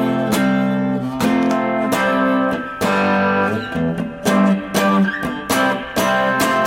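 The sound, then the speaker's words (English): An electric guitar overdriven by a deco pedal's amp and tape saturation strums a chunky Stones-type rhythm, with sharp chord attacks every second or so and a gritty, saturated edge on each ringing chord. It plays alone and fairly loud. “Then the other added feature of the deco pedal is that it's got an amp saturation, tape saturation overdrive on it, so I can get that nice Stones type rhythm.”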